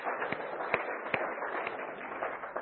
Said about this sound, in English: A round of applause.